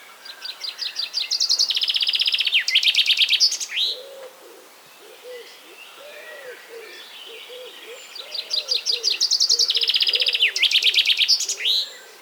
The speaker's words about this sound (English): Anyway, the common chaffinch is, true to its name, a very common species. Europeans, as usual, don't bother calling it a common chaffinch. It's just chaffinch to them.